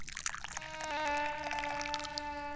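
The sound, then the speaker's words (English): Tea pours steadily into a cup, a continuous gurgling stream whose ringing tone rises in pitch as the cup fills over a couple of seconds. “and I'm the guy pouring the tea right now.”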